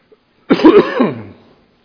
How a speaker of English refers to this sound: I am confident that some time in my life this cough will go away. Hadn't been that long, really.